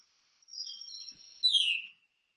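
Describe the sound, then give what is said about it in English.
A single veery call: a thin, clear whistle that slurs downward and ends in a brighter burst before fading, heard alone against silence. “And let me just play you this call of the veery, which is why it has the name veery.”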